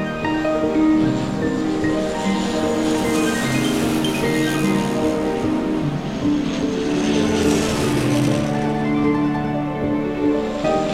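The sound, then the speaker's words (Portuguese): A small propeller plane drones steadily in the sky above a crowded beach on a hot day, its engine pitch rising and falling as it loops and turns, loud and continuous for the whole stretch with no voices. “Ouves um som vindo de cima. Olhas para o céu e vês uma avioneta que dá voltas e reviravoltas no ar.”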